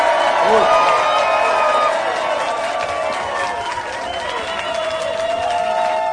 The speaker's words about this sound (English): Very good, round of applause.